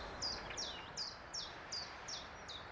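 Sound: common chiffchaff song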